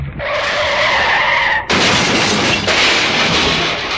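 A new car's tires squeal in a loud, sustained skid for over a second, then a sudden heavy crash as it hits a tree, with rumbling debris, loud, with no talking; only the front bumper is slightly dented.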